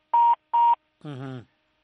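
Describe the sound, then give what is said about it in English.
A caller's phone line on a live radio talk program beeps twice as the call cuts off, two short, evenly spaced electronic tones, followed by a brief, muffled fragment of a voice. “That phone is gonna cut down. Off.”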